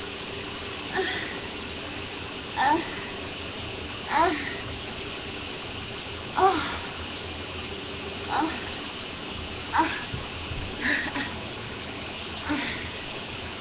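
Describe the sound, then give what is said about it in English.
A shower head with jet and pulse settings runs steadily, a constant hissing rush of water, with brief higher-pitched squeaks or tones popping up every couple of seconds. “Afterwards, when I'm taking my shower”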